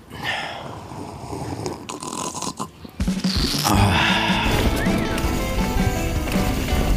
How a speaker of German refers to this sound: Jetzt schenkst du dir da was ein, das geht sowieso in die Hose. Ich sehe jetzt gleich schon den Schaum über dein Glas schäumen. Erstmal einen Schluck genießen.